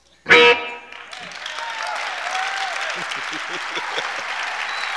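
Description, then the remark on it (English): A sharp, loud burst of sound opens before a crowd breaks into sustained applause, a dense steady patter of clapping that carries through to the end. “Thank you for the hands, the sounds of your hands.”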